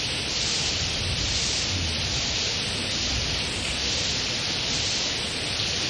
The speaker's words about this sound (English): everything is cleansed by Krishna sending all of this rain. The atmosphere becomes cool, and the sound of the rain is also very pleasing